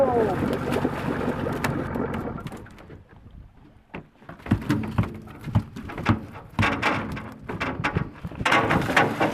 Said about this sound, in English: Besides the fishermen on the lower Yukon, this may be the first time anyone has heard a Yupik fisherman releasing a king salmon back into the river.